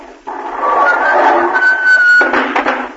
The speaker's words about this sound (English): But, ma'am, that was something in the back seat here. Why, yeah, it was this here shotgun that fell down.